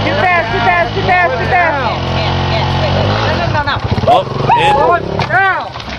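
motorbike engine revving

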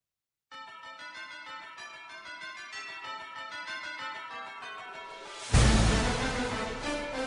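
ringing bells

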